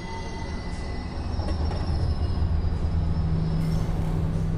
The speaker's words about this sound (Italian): Il vento della metropolitana in arrivo mi sbatte in faccia come uno schiaffo. Il treno si ferma.